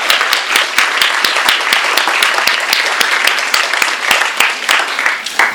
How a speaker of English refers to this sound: Today, we are uncommonly lucky to welcome Wallace Shawn with his latest book, Night Thoughts. He is an actor, playwright, essayist, comedian. Let's clap for him.